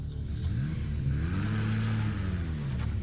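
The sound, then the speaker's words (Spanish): A car engine is started and roars, its pitch climbing as it revs hard and the car drives off fast, a steady loud rumble with no voices. “Entonces en ese momento yo escuché que prendieron un carro y salieron a miles.”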